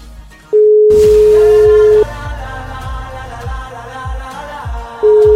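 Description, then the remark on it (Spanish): A phone's ringback tone sounds twice, a long steady beep of about a second and a half, silence, then a second beep starting at the end, over rhythmic background music, as a radio host places a surprise call to a listener. “Vamos a ver si me coge el teléfono, porque esto es sorpresa total.”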